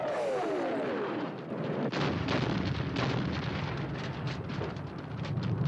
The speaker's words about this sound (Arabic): ها يا لطيف يا لطيف، شو هالأصوات يا لطيف؟ شنها ثلاث انفجارات ورشقات نارية. الله يستر من جهة المطار.